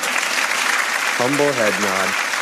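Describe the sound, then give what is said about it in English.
Dense, steady audience applause, a standing ovation for a speaker on stage, fills the whole stretch, a continuous wash of clapping, with a single voice briefly calling out over it partway through. “Video fades to black while the applause continues for an unrealistic amount of time.”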